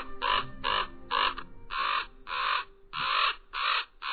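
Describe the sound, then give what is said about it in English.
Common ravens call loudly from the branches of scraggly pines, a rapid series of harsh, croaking caws tumbling over one another in an excited squabble, about eight calls in four seconds with no other sounds. “Common ravens call and squabble from the branches of scraggly pines.”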